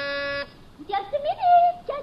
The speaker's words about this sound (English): And I'll press the buzzer.